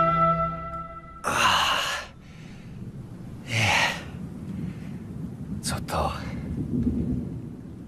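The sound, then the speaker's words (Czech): Rain falls over a steady low rumble of thunder, broken by a few loud, rushing gusts that swell and fade over several seconds. “Aha, ono prší.”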